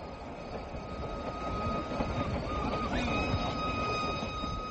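A special, modern air-conditioned train set up by the Indian government, carrying railway experts across India, rumbles steadily along the rails, a dense low roar with faint high metallic whines and a brief rising squeal near the end, no voices present.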